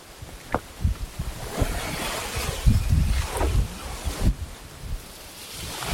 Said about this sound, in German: Ich könnte mir das jetzt hier jeden Tag so zum Aufwecken... Meeresrauschen. Genau, kann ich mir so eine kleine Meeresrauschen-Melodie zusammenschneiden.